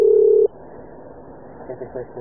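A loud, steady telephone dial tone on an empty call after the caller has cut off hums for about half a second and then cuts off abruptly, leaving quiet line hiss with faint murmuring.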